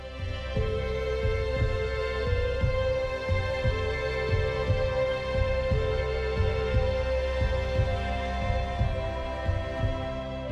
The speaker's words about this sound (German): Und das ist die Groove. Das ist in den Dreiviertel-Timing. Das ist Waltz. Und so, es ist irgendwo Herzschlag, aber es hat ein musikalisches Gefühl.